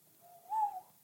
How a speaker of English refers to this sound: Sounded a bit like an owl then. That was nice.